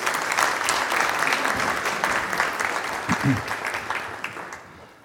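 Steady applause from an audience, a dense crackle of many hands clapping that holds for about five seconds before tapering slightly at the end, with a brief voice or cheer mixed in midway.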